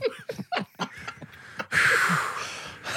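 Choppy laughing breaths give way to a loud, drawn-out exaggerated yawn, breathy, lasting about a second before trailing off.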